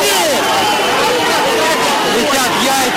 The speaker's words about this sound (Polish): Ludzie krzyczeli w kierunku jeńców: faszyści, nabić ich na pal. Rzucali w ich stronę kamieniami i butelkami. Głos z megafonu kilka razy powtarzał: jesteśmy Rosjanami.